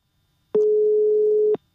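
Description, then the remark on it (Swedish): A single steady ringing tone of an outgoing phone call to a forensic pathologist, lasting about a second, clear, with faint clicks as it starts and stops and no voices. “ringer jag upp rättsläkare Jan Lindberg som utförde obduktionen”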